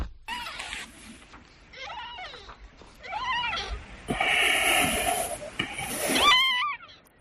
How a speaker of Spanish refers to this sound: Estos son los débiles maullidos de un gatito casi recién nacido y que junto con otros 3 de sus hermanos alguien depositó en una bolsa de basura junto a un contenedor del concello de Ames hace ahora unos días.